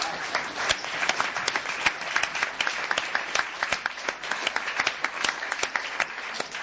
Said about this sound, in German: Stark geklatscht.